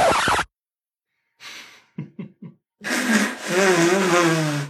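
Loud nose blowing: a short blast, a breathy rush, three quick snorts, then a long, wavering honk with a trumpeting, elephant-like tone.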